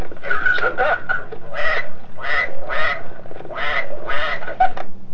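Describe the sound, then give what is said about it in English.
A duck quacks loudly, giving a rapid series of about eight to ten nasal quacks in an uneven rhythm that fills the whole stretch, with no voices present. “Okay, here's the duck.”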